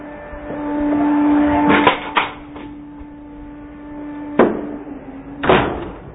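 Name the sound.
door being shut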